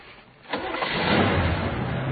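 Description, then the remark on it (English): A car engine cranks and catches after a brief quiet moment, then settles into a steady rumbling idle that continues to the end. “Start the car.”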